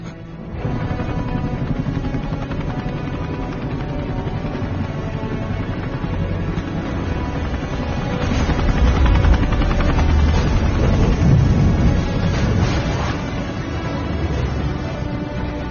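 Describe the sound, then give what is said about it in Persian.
A helicopter's steady rotor roar fills the scene, swelling louder toward the middle as it comes in, with bursts of gunfire and crashes mixed into the dense noise. “باشه داره میاد. هلیکوپتر رفیق جونز دود راه بنداز.”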